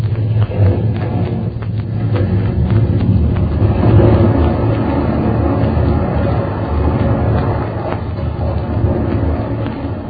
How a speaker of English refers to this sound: Hardly believe it. A good 30 feet of the island breaking off and crashing into the ocean.